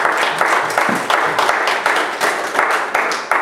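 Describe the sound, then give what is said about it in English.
A crowd applauding steadily, many hands clapping in a dense, continuous patter that holds at a fairly loud level for a few seconds, with faint voices mixed in. “Give these people a hand of applause.”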